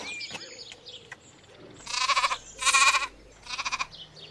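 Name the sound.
goat bleating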